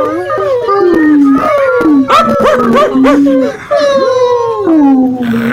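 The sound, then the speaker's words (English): Several voices imitate whining puppies together, producing overlapping, wavering high-pitched whimpers and drawn-out howling moans that rise and fall continuously, loud, with no ordinary speech. “Can I get a little puppy moans, please?”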